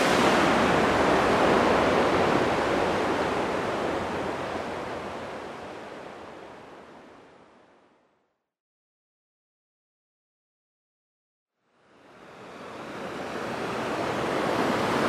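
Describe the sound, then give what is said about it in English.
A loud, steady rush of water falling from a waterfall fills the first half, fading gradually into several seconds of silence before the roaring wash swells back in. No voices are heard. “A very fine waterfall.”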